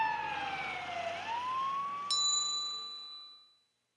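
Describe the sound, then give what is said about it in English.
A fire truck siren wails, its tone dipping and then rising. A bright chime rings partway through, and the sound fades out to silence as the vehicle pulls away. No talking. “Look, the truck is moving.”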